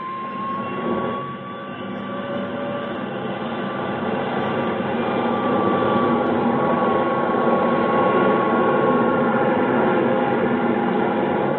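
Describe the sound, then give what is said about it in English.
An Air National Guard military jet, number 4389, takes off at 21:29 New York time after being cleared by the tower, its engine a loud, continuous roar with a high whining tone that swells slightly and holds steady throughout. No voices are heard. “Tower, this is Air National Guard Jet 4389. Request takeoff clearance.”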